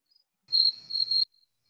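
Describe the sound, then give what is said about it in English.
A cricket trills in a steady, high-pitched burst lasting under a second, clear, with a few faint chirps before and after in an otherwise quiet background. “Who's got crickets?”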